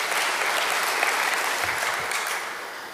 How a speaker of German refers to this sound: Ja, lass uns gerne einen Applaus geben.